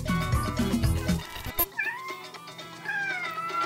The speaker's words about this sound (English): That's my kitty cat, Max